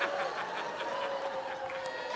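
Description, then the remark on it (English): A person imitates a honking Canada goose with a sustained, nasal, raspy call that runs continuously for a couple of seconds, loud, with no other sounds around it. “Like a Canadian goose lost in a thunderstorm.”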